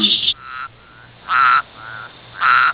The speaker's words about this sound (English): Here's our friend the Bullfrog croaking his chords for Job Double Wides, the best rolling paper in the world for webbed feet.